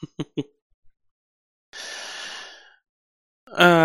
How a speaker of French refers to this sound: Du coup, et je baille, regardez, je baille.